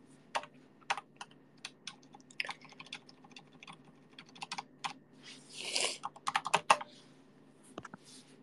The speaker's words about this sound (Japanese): タイピング音でかくない？